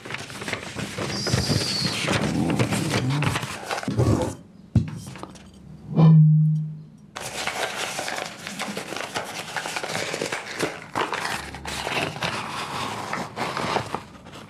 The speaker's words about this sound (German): Ich habe das Gequietsche eines Stuhls aufgenommen und dazu das Gekritzel des Stifts.